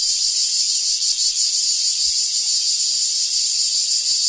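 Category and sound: insect, cicada chirping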